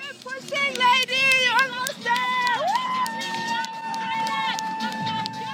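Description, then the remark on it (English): Thousands of spectators gathered along a marathon course cheer and sing, encouraging the runners on, with overlapping voices and sustained shouts rising and falling continuously, loud throughout. “And gathered all along the course are thousands and thousands of spectators, singing, cheering, and encouraging the runners on.”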